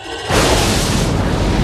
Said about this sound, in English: The best thing about the Bird of Prey in the Undiscovered Country is that this was the point where the Klingon Corps of Engineers, they finally perfected that explosion sequence.